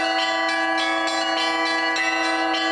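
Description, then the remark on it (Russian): Church bells from a mobile belfry ring out in a rapid, overlapping peal, bright metallic strikes layered over a sustained humming tone, loud with no voices, on the central embankment in Khabarovsk as an ark with holy relics arrives during a religious procession. “На центральной набережной ковчег с мощами встречает перевозная колокольня.”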